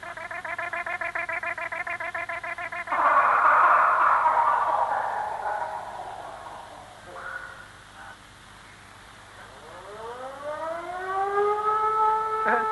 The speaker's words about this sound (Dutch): Zo laat. Dat is de fluit van het schafkwartiertje. Ze gaan schaften op Rotterdam in de uraniumgraverij. Het is nou, zo gezegd, lunchtijd.